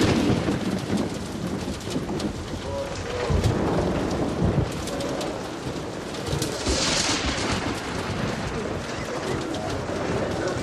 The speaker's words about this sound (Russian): Сквозь дыры в крыше церкви сверкает молния. Начинается дождь.